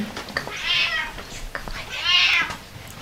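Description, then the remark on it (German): A hungry cat meows twice, each call long and loud, with a rising then falling pitch, separated by a short pause. No one speaks. “Ganz normaler Alltag mit gesprächigen und hungrigen Katzen.”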